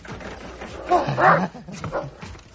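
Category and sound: animal, guard dog barking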